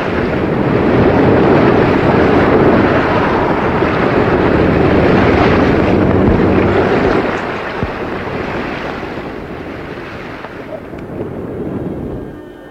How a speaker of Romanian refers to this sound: Se apropie uragan. Țineți-vă bine!